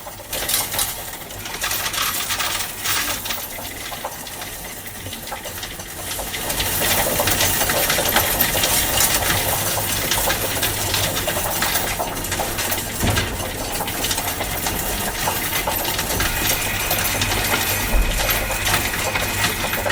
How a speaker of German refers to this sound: Zeiten, in denen man von bargeldlosen Zahlen spricht und Bitcoin, könnte das Geräusch von solchen Münzen irgendwann selten werden.